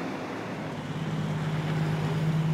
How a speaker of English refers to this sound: The sound of rumbling logging trucks can also play a role saving salmon.